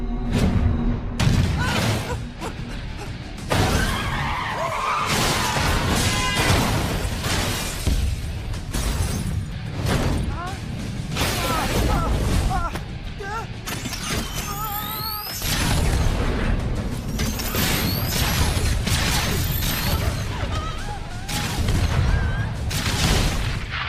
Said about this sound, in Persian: یک خبر مهم، گزارشاتی از تیراندازی و انفجار در نزدیکی غذاخوری پارک پایین شهر دریافت کردید. شواهد نشان می‌دهد که این اتفاق کار حداقل 3 شخص با لباس مبدل است که مسلح به اسلحه‌های فوق پیشرفته است.